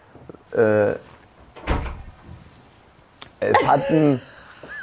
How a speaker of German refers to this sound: In dem Moment geht die Tür auf. Es geht schon wieder auf.